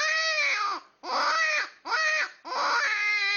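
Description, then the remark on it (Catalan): A red fox gives four loud, wailing screams in quick succession, each a harsh, strained cry lasting under a second, with brief pauses between them and no talking. “La guineu és un mamífer que fa uns 80 centímetres de llarg amb una cua d'uns 40 centímetres.”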